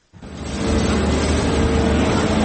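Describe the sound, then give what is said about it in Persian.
Heavy diesel engines of loaders searching for the bodies of killed hostages in the Gaza Strip rumble steadily at a constant loud level, a low broad drone with a faint tonal whine, starting abruptly after a brief silence. No one speaks. “صدای لودرها در عملیات جستجو به دنبال اجساد گروگان‌های کشته شده در نوار غزه.”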